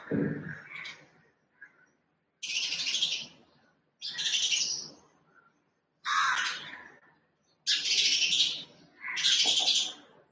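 Sparrows chirp outside a window where bird feed has been put out for them, in loud, busy bursts, about five or six clusters of harsh, overlapping calls separated by short pauses, with no one talking.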